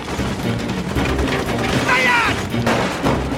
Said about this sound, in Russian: Со всех сторон по колонне открывают яростный огонь.